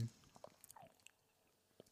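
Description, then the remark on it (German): Wet chewing and lip-smacking of sour food near a microphone, a series of soft clicks and squishy bursts in an irregular rhythm, quiet and intimate with no talking. “Ich will es auch nicht so ins Mikro schmatzen irgendwie, aber.”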